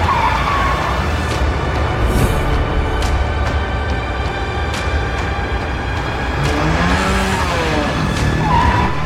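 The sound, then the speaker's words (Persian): A car engine rumbles loudly, then tires squeal briefly as the car brakes and comes to a halt at the head of an alley, with rising and falling siren-like wails mixed into the traffic noise. “سر یک کوچه می ایستن.”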